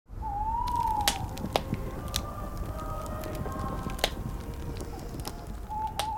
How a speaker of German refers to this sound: Ein schönes, gemütliches Lagerfeuer. Währenddessen werden Weihnachtslieder gesungen. Das Geräusch des Nachthimmels ist echt. Der Chor auch. Das Feuer aber nicht.